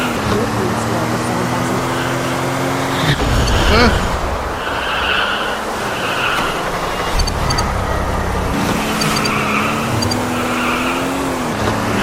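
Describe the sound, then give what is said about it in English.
A steady, buzzy video-game car engine drones, broken near the middle by a loud crunching skid or collision burst as the player's car is hit by another car, with bright electronic chirps and tones sounding over the engine afterward. “Just got hit by a car.”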